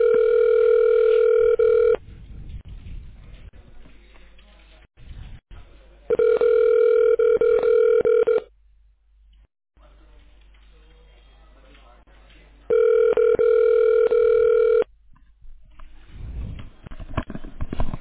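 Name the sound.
telephone ringing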